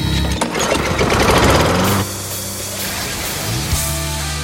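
Several race car engines on a formed starting grid roar to life, a loud rough buzzing rattle for about two seconds before settling into a lower, steady idling drone.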